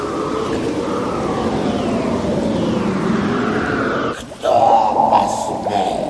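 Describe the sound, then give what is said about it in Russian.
A nine-headed dragon, a gold star on each head, swims on a wave of a black river and roars menacingly from afar, a deep, rumbling growl that drones on steadily for several seconds before breaking into a sharper, louder snarl near the end. “На каждой главе по золотой звезде сверкает, сам издали грозно рычит.”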